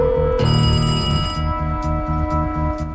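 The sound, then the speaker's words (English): An apartment building's entry phone rings with a loud electronic tone that pulses steadily in quick repeated bursts, clear, with no voices; someone outside has keyed in the entry phone number. “Eve picks up her entry phone.”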